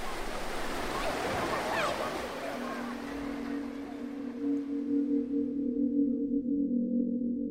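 Sea waves and surf wash in a steady rush, and after a few seconds a low, constant engine drone rises beneath the water noise and continues to the end.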